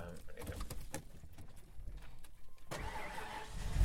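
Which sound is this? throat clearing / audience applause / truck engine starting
truck engine starting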